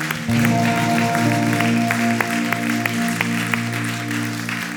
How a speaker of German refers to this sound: Geben wir Jesus nochmal einen Applaus.